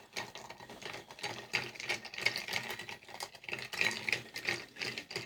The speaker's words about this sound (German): Liebe Hörer, dieses Geräusch hört gleich auf. Ich habe diesen Drink gleich totgerührt. Ja, der Drink hört gleich auf zu schreien.